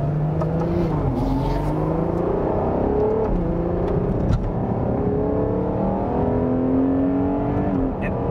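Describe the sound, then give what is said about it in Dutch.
A Ferrari sports car with a naturally aspirated 6.5-liter, 725 hp engine revs hard and continuously, its pitch climbing through gears with brief dips at each shift, loud, with no talking over it. “Ja, eentje van die laatste atmosferische blokken. En inlaat- en uitlaattraject geeft gewoon zo'n geweldig geluid.”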